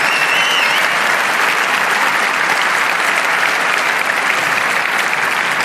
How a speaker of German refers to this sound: Und jetzt bitte nochmal mindestens genauso viel Applaus für die ganzen Leute, die hier sitzen und uns so krass unterstützen.